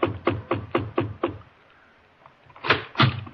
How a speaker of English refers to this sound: The knocking that came upon my chamber door could have been the raven.